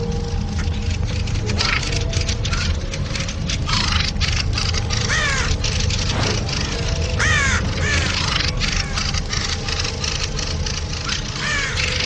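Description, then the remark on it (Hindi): Crows caw harshly and repeatedly in loud, rasping bursts as a group threatens and attacks an intruding black crow, several birds calling in an irregular, agitated stream over a steady background hum. “एक परिंदा गुस्से की कड़क आवाज में चिल्लाकर इस घुसपैठिए को धमकाता है।”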